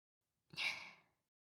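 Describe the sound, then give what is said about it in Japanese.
A big yawn: one breathy, airy exhale that starts abruptly and loudly, then tapers off over well under a second, heard alone without any talking. “やだ、大きなあくび。”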